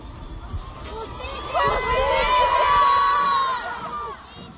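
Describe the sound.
A crowd of women angrily shouting together at a protest at a roundabout, a loud sustained chorus of raised voices rising in the middle and holding for a couple of seconds over background crowd noise.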